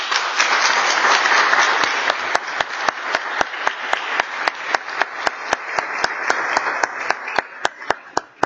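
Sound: round of applause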